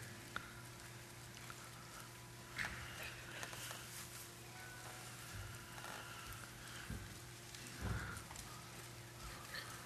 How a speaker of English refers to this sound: I still see people flipping pages. I hear pages turning.